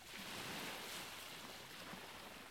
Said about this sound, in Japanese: この海岸を通るのが一番近道なの。波の音を聞きながら、リラックスしてていいよ。ほら、月の光で海が輝いてる。